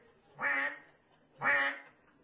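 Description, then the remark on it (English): A duck quacks twice, two nasal, buzzy calls about a second apart, moderately loud, with no voices around them. “That is a duck.”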